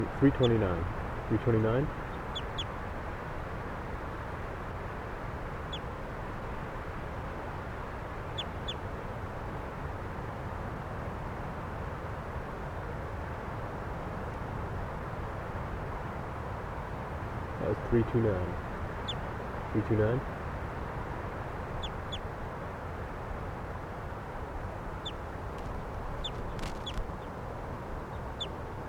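bird calls

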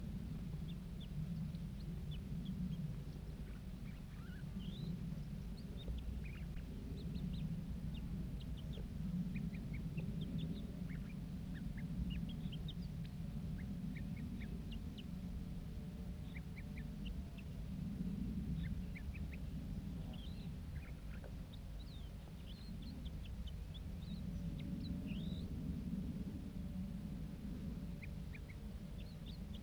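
juvenile bird singing

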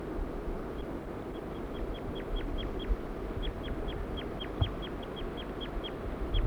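birds calling

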